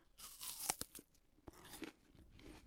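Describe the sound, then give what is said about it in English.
A crisp crunch of teeth biting into an apple, followed by a few wet, crackling chews with sharp transient snaps, heard alone with no talking. “Now, here is the first apple that we're really going to see. Now, obviously, it's more about the sound effect, listeners.”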